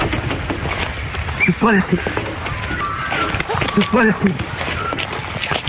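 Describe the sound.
A duck trained to say "you bloody fool" imitates human speech, giving two short, gruff, voice-like phrases a couple of seconds apart over a steady, noisy outdoor background.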